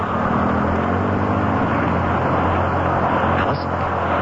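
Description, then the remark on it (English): A steady, loud bus engine drone with a low humming rumble and broad road noise, holding constant throughout with no voices. “Step to the rear of the bus, please.”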